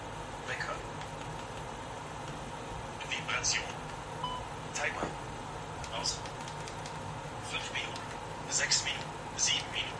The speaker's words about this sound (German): Mach den Timer wieder an.